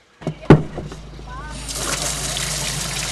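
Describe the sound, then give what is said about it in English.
A metallic clank, then water from a village well on a busy street corner starts pouring in a steady rushing stream as an elderly woman draws water to fill plastic bottles, continuing to the end, with faint voices in the background. “On a busy street corner, an elderly woman comes to one place where people can still get water, at the village well.”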